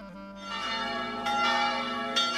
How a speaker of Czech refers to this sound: Zvuk zvona Svetosavskog Blažujskog hrama od kraja 19. vijeka odzvanja Sarajevskim poljem, vrelom Bosne i padinama Igmana.